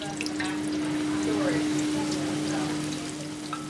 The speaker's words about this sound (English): She flattens each one, then floats them in sizzling oil.